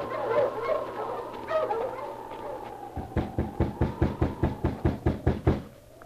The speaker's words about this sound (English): A week passed, and then, in the early morning, at an isolated spot surrounded by birch trees, a driver halted his team of dogs.